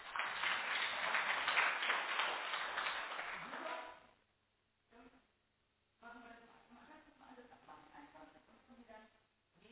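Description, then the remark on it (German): A standing church audience applauds steadily for a few seconds before the clapping fades out, followed by a pause and then a person speaking in a reverberant room. “Ein Applaus nochmal.”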